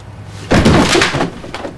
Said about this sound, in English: Finn's arm knocks over a toy station master.